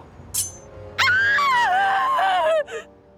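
A sharp intake of breath, then a woman stabbed in the back by the Ripper lets out one long, loud, high-pitched scream in a neighborhood street that wavers and slides gradually downward in pitch before cutting off, followed by a short gasp.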